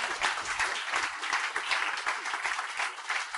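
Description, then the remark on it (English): A church audience applauds the Lord together in a steady, dense wash of clapping that fills the room, loud and sustained, with no voices standing out. “give the Lord a huge man of applause.”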